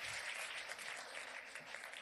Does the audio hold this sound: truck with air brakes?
no